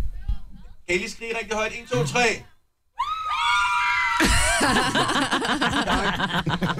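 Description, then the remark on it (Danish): A small group of five fans screams loudly and shrilly on request after a count of three, starting after a brief pause and sustaining high-pitched overlapping shrieks, with chatter and laughter beforehand. “De er gode til at skrige.”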